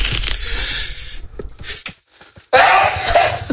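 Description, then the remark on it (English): A loud human sneeze bursts out suddenly after a short hush, following a few seconds of breathy, rustling noise and small catches of breath. “I'm going to sneeze.”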